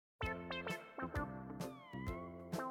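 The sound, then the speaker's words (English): A cat meows in a drawn-out, wavering series of cries, loud, with the pitch rising and falling. There is no talking. “Students at Georgia Tech have brought back a student organization that takes care of the university's population of feral cats.”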